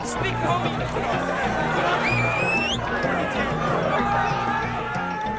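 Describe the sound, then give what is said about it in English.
A dense wall of crowd chatter from a big outdoor party of about 500 people, many overlapping voices blending into a steady, loud hubbub, with a brief rising whistle-like tone cutting through midway. “Maybe like 500 people at this like exact spot. Like people were just hanging out, like a big swarm of people.”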